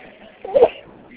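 A single short sneeze bursts out, abrupt and fairly loud, over a quiet background with no talking.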